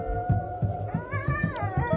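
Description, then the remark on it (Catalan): A cat meows in drawn-out, sliding cries that rise and fall over a steady, rhythmic low thrumming in the background, with no talking. “Hi ha algun gat i tot per aquí, eh?”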